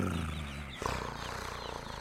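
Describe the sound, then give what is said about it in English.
A human voice imitates a cat's purr, a low, continuous rumbling with a rapid fluttering pulse that breaks briefly and then resumes, fairly loud and steady throughout. “So yeah, I'll purr in your general direction as much as possible.”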